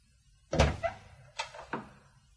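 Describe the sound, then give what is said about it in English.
Four firm knocks on a wooden door, in two loose pairs with a short pause between, fairly loud, with no voices. “So I knocked on her door.”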